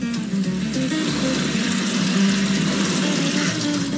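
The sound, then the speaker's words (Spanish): Steady running water splashes continuously as potatoes are rinsed again beneath it, like a faucet pouring into a sink, with faint clatter and a low rumble in the background; no one speaks. “Y ahí vuelve a enjuagar las papas. Lavamos bien nuestras papas.”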